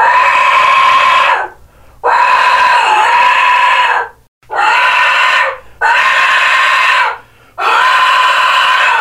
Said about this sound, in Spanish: Entonces de ahí el nombre de Jecaxitli, pero en sí no es silbato de la muerte, sino es silbato de viento, pero conocido como silbato de la muerte. Jecaxitli, silbato de viento, silbato de la muerte.